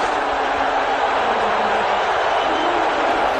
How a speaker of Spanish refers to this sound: Esto es un abucheo en el Madison Square Garden.